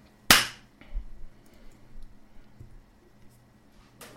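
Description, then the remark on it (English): A single sharp, loud hand clap rings out near the start, made as an edit marker after the speaker coughed while recording, then fades quickly into quiet with only faint background noise. “Okay, so I coughed there, guys, so that'll be another clap book here.”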